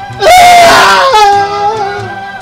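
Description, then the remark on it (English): A single loud scream rises sharply and holds for about two seconds with a wavering, slightly falling pitch. No one talks over it. “And Scream. Go ahead. Get it out of your system.”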